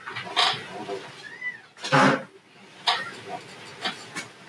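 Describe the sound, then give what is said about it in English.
A very young, tiny male kitten, about the size of a hand, gives a short, thin meow, surrounded by bursts of rustling and scratchy handling noises, with no talking. “Here's a cat.”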